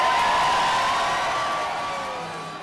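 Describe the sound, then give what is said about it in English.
An enthusiastic crowd of supporters cheers as Larry Krasner speaks to them after his victory, in a dense, sustained roar, with a shrill whistle cutting through, and the noise eases off slightly toward the end. “Alrighty, and there you heard a very enthusiastic crowd with Larry Krasner speaking to his supporters after his victory.”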